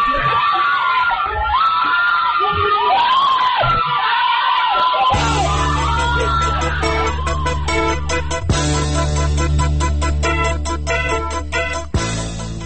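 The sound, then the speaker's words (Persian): A crowd screams and yells in rising, wavering cries, loud, then the shouting merges into a dense, continuous roar of many voices that persists to the end, as a white and green van runs over a man during the '88 (2009) post-election protests on Ashura, recorded on a citizen's mobile phone. “وانت دیگری سفید و سبز از سمت چپ دور بر می دارد، دنده عوض می کند و از روی مرد می گذرد و فریادها رنگ فوقان می گیرد.”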